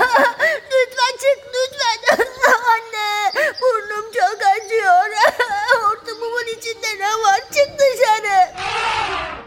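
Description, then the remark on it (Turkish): A voice imitates an elephant crying in pain after an ant bit its trunk, a long run of wavering, sobbing wails and whimpers with rising and falling pitch, fairly loud, ending in a breathy burst. “Artık filin canı o kadar çok yanıyormuş ki ağlamaya başlamış.”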